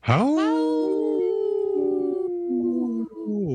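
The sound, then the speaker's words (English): A person imitates a wolf howl: one long, sustained, wavering call that rises sharply at the start, holds steady, then dips and trails off, loud with no speech. “That was a good howl.”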